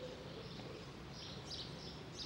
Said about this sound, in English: You can see birds. All the birds have come back home again. They've left their resting places to come home. What a beautiful, beautiful sound. Music of the ages.